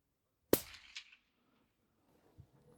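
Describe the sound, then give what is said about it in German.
A single rifle shot fired with a suppressor cracks out sharply. It is a second check shot to see whether the shots group well, and a brief metallic-sounding echo or follow-up burst comes after it. Near silence follows, with faint low thuds. “hat jetzt zwei Schuss mit dem Schalldämpfer abgegeben, um zu gucken, ob die Schüsse”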